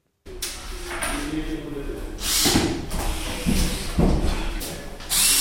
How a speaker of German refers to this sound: Momentan laufen noch die Bohrmaschinen im zweistöckigen Haus an der Flughafenstrasse 20, gerade neben dem Kannenfeldpark. Das Haus mit Garten und einem kleinen Sportplatz ist aber fast fertig.